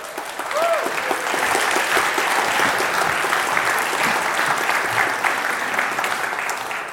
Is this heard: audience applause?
yes